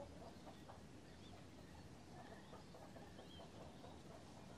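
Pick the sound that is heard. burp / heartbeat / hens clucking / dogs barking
hens clucking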